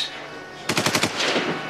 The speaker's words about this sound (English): All of a sudden I heard shooting from the Delhaize supermarket.